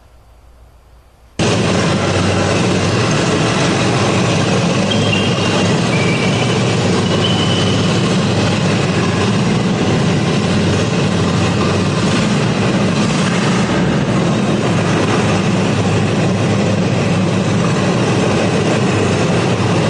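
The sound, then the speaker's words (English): After a brief quiet moment, a loud, steady roar of a driverless car's engine and rolling vehicle noise kicks in abruptly as the car drives itself with no one inside, its accelerator pushed all the way down, continuing without a break, dense, with no voices. “And there's nothing more scary than seeing a car drive without a person in it.”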